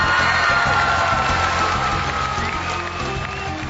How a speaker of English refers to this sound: Okay. Ooh, I love that. I love applause. I love applause.